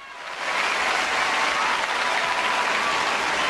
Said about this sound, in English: stand to cheer and clap.